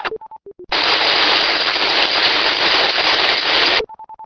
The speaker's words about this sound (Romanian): Cu zgomot, s-a deschis link-ul, dar fără să fie modulația inteligibilă. Aceeași situație.